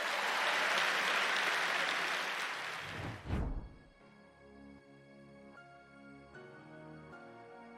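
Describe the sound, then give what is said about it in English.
An audience claps hands in a dense, loud burst of applause for about three seconds, then the clapping gives way to soft sustained music with steady chord tones. “Come on, clap your hands.”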